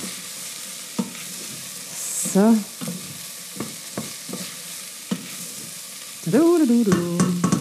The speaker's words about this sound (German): Jetzt ordentlich herumrühren. Schon ein bisschen rumkratzen, auch da, wo wir schon so leckere angebratene Sachen haben. Das ist alles toller Geschmack. Das löst sich dann eben im Wasser vor allem auch.